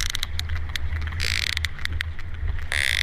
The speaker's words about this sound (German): Insbesondere an Pottwalen wird gerade gearbeitet und die klingen so.